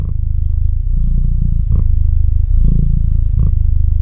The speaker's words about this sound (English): Now that is a purring sound you can meditate to. Check out photos of Bilbo the Cat on our Instagram.